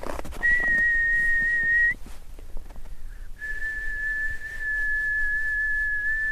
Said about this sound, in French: Quand j'étais enfant, je croyais qu'en sifflant et en frottant les mains l'une contre l'autre, c'était censé faire danser les aurores.